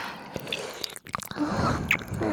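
Wet, squishy mouth sounds with sticky clicks and smacking, a busy irregular stream of moist lip and tongue noises at moderate loudness, with no talking.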